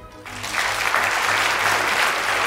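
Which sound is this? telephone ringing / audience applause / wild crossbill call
audience applause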